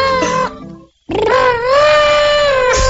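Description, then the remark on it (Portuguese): A person loudly imitates an elephant trumpeting: a short brassy blast, a brief pause, then a longer sustained trumpet call with a wavering pitch. “Eu vou pessoalmente e faço o elefante pra você.”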